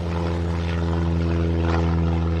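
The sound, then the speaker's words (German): A propeller airplane engine at a flight school, started as the plane takes off just after sunrise, drones steadily and loudly, with a strong low, even hum that holds constant throughout, no voices present. “Sie steigt ins Flugzeug, startet den Motor und hebt ab.”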